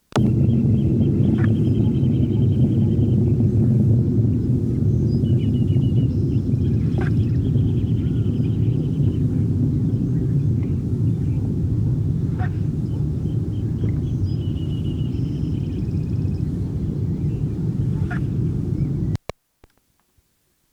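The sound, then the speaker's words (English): A juvenile Anna's hummingbird, its bill about 95% of full length, with scattered red feathers in the throat and auriculars but none in the crown, repeats thin, high, scratchy song phrases with a few sharp ticks between them, fairly faint over a loud, steady low rumble that cuts off abruptly near the end. “sequences by Eclectiana juvenile, whose bill was about 95% of full length, with scattered red feathers in the throat and auriculars, but none in the crown.”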